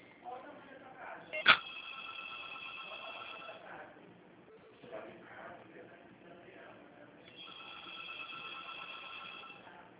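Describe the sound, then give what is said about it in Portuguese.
A telephone rings twice, each long, steady, high-pitched trill lasting a couple of seconds, the first starting after a sharp click. Faint voices murmur underneath. “Ele vai atender o telefone, gente.”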